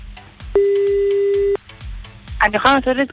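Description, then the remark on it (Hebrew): A telephone ringback tone sounds once, a clear steady one-second beep while a call to a woman goes unanswered, over a soft rhythmic background, followed by a voice starting to speak. “ניסינו טלפון גם מחסוי, גם לא מחסוי. כנראה לא ענה למספרים שהיא לא מכירה או משהו כזה.”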